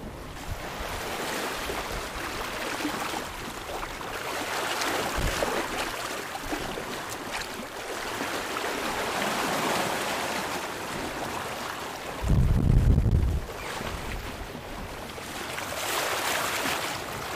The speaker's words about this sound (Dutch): We varen nu met 5,9 knopen. 6 knopen, ja. Het gaat hard.